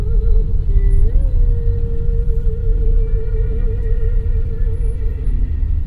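A steady, loud low rumble of buses and jeepneys passing by, heard from a taxi headed to the airport, heavy engine noise filling the scene with a sustained whining tone riding over it, and no one speaking.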